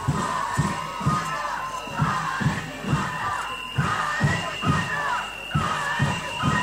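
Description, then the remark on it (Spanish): A crowd claps in a steady, rhythmic beat, roughly two claps per second, with loud cheering and shouting voices mixed over the pulse throughout, voting by acclamation to choose a venue. “Recordamos que aplaudimos para elegir la sede que queremos.”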